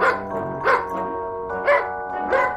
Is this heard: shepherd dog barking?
yes